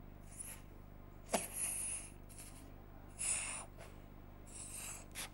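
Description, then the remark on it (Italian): Gas, put into a balloon under some pressure, is drawn from the balloon in a few airy, hissing inhalations, the first opening with a sharp pop-like burst, followed by softer breathy rushes of air. No one speaks. “Adesso io provo a respirarmelo e vediamo che cosa succede.”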